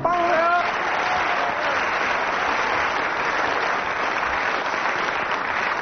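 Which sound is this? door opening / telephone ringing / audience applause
audience applause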